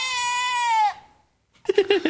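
A single loud, drawn-out goat bleat, nasal and steady before trailing off, followed after a short pause by a voice starting to talk.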